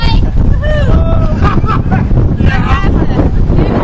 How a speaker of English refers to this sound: this brevet actually gets on board a ferry boat to ferry us across the harbor, the Newport Harbor, I think.